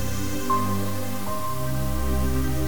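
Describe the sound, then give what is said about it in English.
Steady rain from a storm patters on plastic against a window, a dense, continuous wash of small taps with a low, even rumble underneath and no voices. “And you can hear the rain pitter-pattering on the plastic against the window.”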